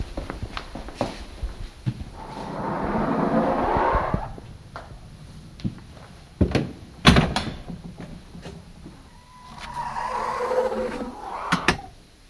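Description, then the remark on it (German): A heavy door to an anechoic test room swings and shuts with a loud thud around the middle, amid footsteps and shuffling, with creaking, scraping movement before and after. “Jetzt ist da die schwere Türe zugegangen.”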